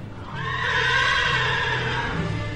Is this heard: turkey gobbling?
no